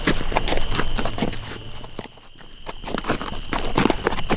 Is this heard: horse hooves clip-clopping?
yes